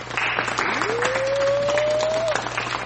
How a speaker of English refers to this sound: A black man, only one person got it. You get the golf clap.